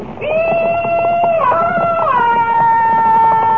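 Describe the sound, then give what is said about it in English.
A loud, sustained Comanche war whoop yell of welcome from a single voice, held for several seconds as one long howling tone that steps up in pitch partway through, with no talking. “That's an old Comanche walk right, Jimmy. Here it is again. Jeepers, Comanche. Will you teach me how to yell like that?”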